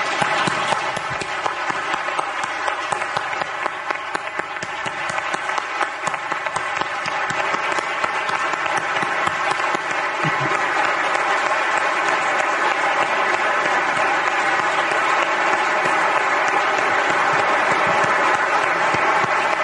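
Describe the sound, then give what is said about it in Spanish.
Sustained applause from a large audience, a dense, steady wash of many hands clapping that holds at a fairly loud, even level for about twenty seconds with no talking over it. “Dediquémosle nosotros un aplauso caluroso a este gran hombre y gran amigo que se nos fue.”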